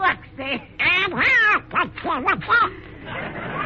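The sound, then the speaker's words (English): Nasal, squawking duck-like quacks in rapid bursts that rise and fall like garbled chatter, loud, a voice imitating the cartoon duck Donald rather than a real bird. “Why, it's not an apple at all. It's a darling little duck.”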